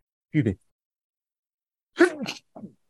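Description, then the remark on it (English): A short breathy vocal sound, then after a pause a single sharp, explosive sneeze, fairly loud, followed by a brief soft voiced exhale. “if you've ever seen me playing with my nose, I'm trying to hold back a sneeze. Bless you.”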